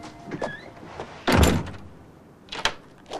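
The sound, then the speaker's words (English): A front door swings shut with a single solid thud, followed by a couple of softer knocks and rattles as it settles, with no voices. “Outside, Scott puts his tan wool duffel coat on, glances back at the closed door, and leaves.”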